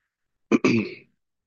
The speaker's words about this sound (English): Sorry, I have a cough, so I don't think.